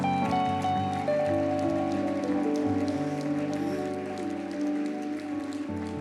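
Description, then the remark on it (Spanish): The Palabra Viva church audience claps steadily as more people come forward, a dense, rain-like patter of many hands that holds for the whole stretch over sustained, low keyboard chords. “Dale un aplauso, más personas vienen.”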